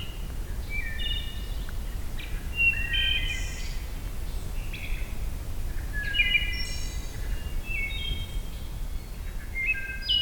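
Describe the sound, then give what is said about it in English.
A wood thrush sings clear, flute-like phrases, several short fluty notes at shifting pitches repeating every few seconds, over a steady low rumble of background noise. “the wood thrush are known for their pirouette song.”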